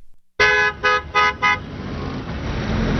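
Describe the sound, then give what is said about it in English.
In a morning traffic jam in Africa's largest city in Nigeria, a car horn honks in four quick blasts, the first long and the rest short, loud over a steady rumble of engines and traffic that continues after the honking stops. “Every morning in the notorious traffic jams of Africa's largest city, millions of Nigerians tune in to a foreign voice.”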